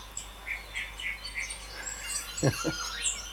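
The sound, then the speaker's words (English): Several birds chirp and sing in bright, scattered bursts over a soft, steady wash of a gentle stream, with a couple of sharper calls near the end. “And I'm into birds, but even yeah. in myself, yeah. Oftentimes I'll go, yeah. I don't know what that is.”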